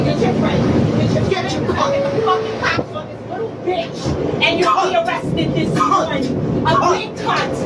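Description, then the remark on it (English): Steady rumble and rattle inside a moving New York City subway car, with several voices talking over the continuous mechanical drone of the train. “This happened on a New York subway.”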